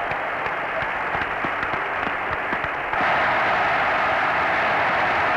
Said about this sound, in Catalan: El públic assistent aplaudint ara els companys de Ràdio Televisió de Cardedeu que ahir foren clausurades les seves instal·lacions.